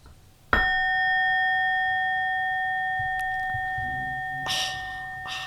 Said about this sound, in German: Gong nochmal bitte.